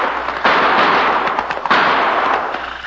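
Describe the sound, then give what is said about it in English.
A rapid volley of gunshots in a town, sharp cracks piling into a dense, noisy barrage with two louder bursts that flare up and trail off, coming from where smoke rises over the roof of a hay barn. Loud, with no voices. “Did you hear what I heard? Not only did I hear those gunshots, Cherokee, but now I can see where they came from.”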